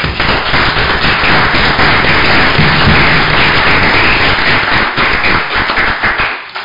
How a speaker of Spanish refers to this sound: Para ellos, un fuerte aplauso.